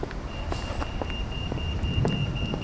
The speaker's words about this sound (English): Slightly closer into the hub of the city, I'm now on Princess Street. The bus which has just passed me was the number 68 for Cannock, making a routine stop.